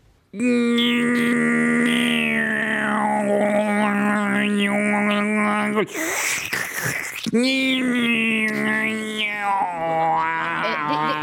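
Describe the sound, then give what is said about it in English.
A voice imitates a dentist's drill cleaning teeth, with a loud, sustained buzzing whine that wavers up and down in pitch. A brief breathy, hissing break comes midway before the whine resumes. “I was going to say, is this the dentist cleaning your teeth? It is the dentist giving you a clean!”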